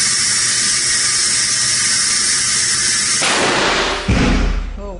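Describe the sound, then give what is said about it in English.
A simulated explosion in a 27-foot blast tube at a Boston University lab, equivalent to the IEDs used in Iraq and Afghanistan: a steady high-pitched whine builds for a few seconds, shifts into a rushing hiss, then a single loud, deep explosive boom erupts near the end and quickly fades. “where a mouse, and in this demonstration, a model, is exposed to an explosion equivalent to the IEDs used in Iraq and Afghanistan.”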